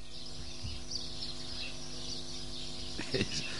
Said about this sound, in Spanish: Que ya tenía yo en preescucha pinchada la unidad móvil, escuchaba, cuando tú estabas en silencio, escuchaba perfectamente el trinar de esos pajaritos.